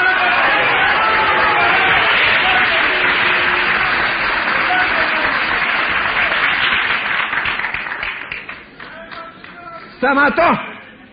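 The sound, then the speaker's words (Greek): Sustained audience applause in a hall, loud and dense for about seven seconds, then thinning out and fading, with a brief voice or murmur rising near the end. “και θέλω να πιστεύω ότι αυτά τα χειροκροτήματά σας δεν είναι τυχαία, όχι προς το πρόσωπο του Αυγουστίνου.”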